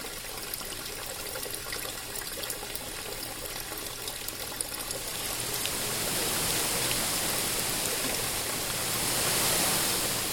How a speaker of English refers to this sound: projecting out over a waterfall. And everything about the house refers to the site when you're outside of it. And then when you go inside, you still feel like you're outside. Andy says there's no escaping the sounds and smells of Falling Water.